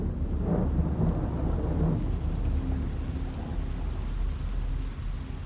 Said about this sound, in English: Sunday, June the 18th, 1815. The rain is relentless till the early hours. First light reveals a mud bath.